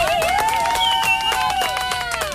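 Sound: applause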